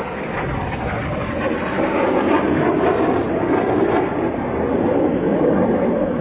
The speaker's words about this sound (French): Donc, regardez à votre droite, plutôt vers le nord, il s'en vient pour sa deuxième passe. Et regardez le dessous de l'avion.